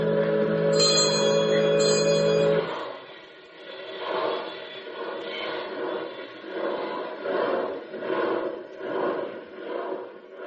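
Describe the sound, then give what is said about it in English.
A bell jingles loudly for a couple of seconds, then gives way to a steady rush of water in the Hudson Valley at twilight, swelling in a slow, rhythmic churning pulse. No voices. “Just the jingle of a bell and the rush of water in the Hudson Valley twilight.”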